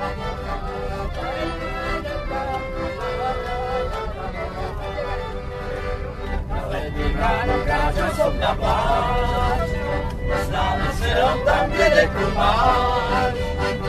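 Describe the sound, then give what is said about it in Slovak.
Inside a moving bus carrying a group of folk singers, a steady low engine rumble runs throughout while they sing a folk song together, growing louder and fuller in the second half. “Nahrávala som v idúcom autobuse, v ktorom sa viezli moji ľudovkári.”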